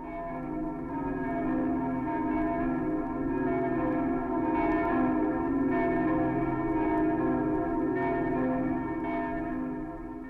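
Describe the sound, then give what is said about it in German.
The bells of the cathedral in Berlin ring out over the city in March 1888, during the funeral procession of the old emperor to Charlottenburg: deep overlapping tones and a long resonant hum at a steady, full volume with no voices present. “Vom Dom, dessen Glocken die Stadt hallen, nach Charlottenburg säumen die Berliner in dichter Menge die Straßen, durch die die letzte Fahrt des greisen Kaisers geht.”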